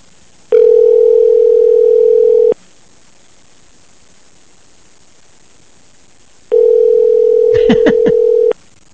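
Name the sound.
telephone dial tone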